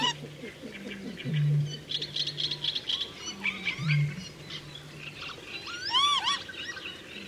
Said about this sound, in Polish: Często ostrzegają w ten sposób partnera siedzącego na gnieździe. Dlatego wiele osób mylnie uważa ten dźwięk za podstawowy głos wydawany przez czajki.